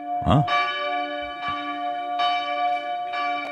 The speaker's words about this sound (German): Burgenländische Kirchenglocken am Klang erkennen. Ist ja nicht so schwer, oder? Probieren wir es mal aus. Na, wo könnte das sein?